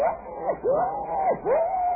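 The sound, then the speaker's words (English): A wild boar cries out in the jungle at night in three loud, drawn-out wails, each swooping down and back up in pitch, following one another with barely a pause. “The cry of the wild boar.”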